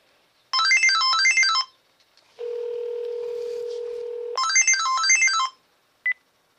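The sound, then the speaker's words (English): A cell phone rings with a bright, repeating electronic melody from an incoming call placed from a house phone, in two bursts separated by a steady humming tone, followed by a single short beep as the caller hangs up. No one speaks. “I am going to use the regular phone, house phone, and call my cell phone, and I will show you what happens when you do that.”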